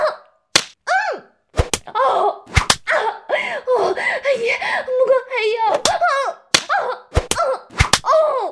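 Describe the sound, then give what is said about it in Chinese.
Roughly nine sharp, loud whip strikes land on a woman's buttocks at irregular intervals, some in quick pairs, between stretches of her breathy, moaning speech. “求爷用鞭子打烂母狗又大又贱的贱屁股吧！”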